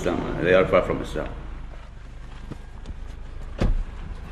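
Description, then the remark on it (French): A brief voice at the start gives way to a car interior's low rumble, with a few small clicks and a solid door thud near the end, as people get into a car and drive toward the ancient site of Palmyra. “On est monté dans la voiture et on roule maintenant vers l'immense site antique de Palmyre.”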